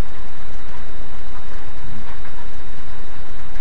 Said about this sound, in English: Present moment, you hear the sound of the rain, and you can ask, is that the reason to be sad? No. So what kind of feeling that I can experience because of this sound of the rain?